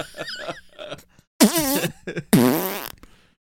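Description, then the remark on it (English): Two loud, drawn-out fart noises from a man, wavering in pitch, one after the other with a short gap, preceded by some quieter muffled sounds. “He says, oh, babe, because all men rip a big fart after they're done having sex.”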